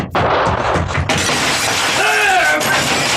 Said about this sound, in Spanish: Dando un increíble salto de tigre, Calimán se ha lanzado contra el ventanal vidriado, atravesándolo y cayendo al jardín.